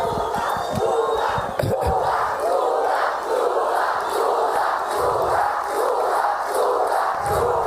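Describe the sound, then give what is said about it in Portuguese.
A large crowd in Parintins, Brazil chants "Lula" over and over in support of President Lula's announcement, a steady, rhythmic shout, loud and sustained, with a roaring wash of voices filling the background between each repetition. “As pessoas gritaram Lula, enfim, apoiando, né, dando então aí o parecer positivo em relação a essa decisão.”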